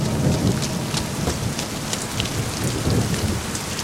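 Steady rain pours down, a dense continuous hiss with scattered droplet taps on a surface, fairly loud, with a low rumble underneath like thunder. No voices.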